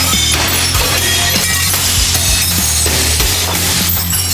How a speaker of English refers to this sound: I finally broke the glass. Let's crawl through.